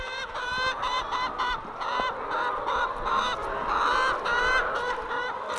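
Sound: flock of hens clucking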